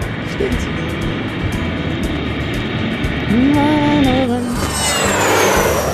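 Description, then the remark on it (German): An airplane comes in to land: a steady engine drone builds into a loud rushing roar, with a brief rising whine partway through. No one speaks. “Flugzeug landet.”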